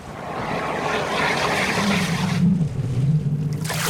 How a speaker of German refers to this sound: Da tut sich etwas im Wasser. Es schäumt und spritzt. Langsam taucht eine gewaltige Schildkröte auf. Der Fluss tost um sie herum, aber die Schildkröte schwimmt ganz ruhig im Wasser und kommt gemächlich ans Ufer